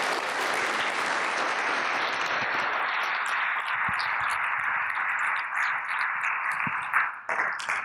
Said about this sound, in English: Can we applaud her and thank her for that?